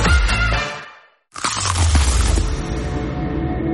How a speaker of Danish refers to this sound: Det her var et forsøg på at tage en lydløs bid af den nye knasende kyllingeburger McCrispy. Desværre fejlede det.